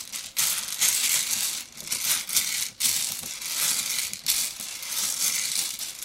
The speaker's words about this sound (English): That's me taking a little lid off the coffee machine and doing a little bean mix.